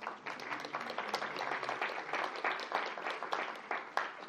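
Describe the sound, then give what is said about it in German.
An audience applauds the worship music (Lobpreis) steadily, many hands clapping in a dense, continuous wash of claps at moderate volume, with no voices rising above it. “Kann man auch Applaus geben für den Lobpreis.”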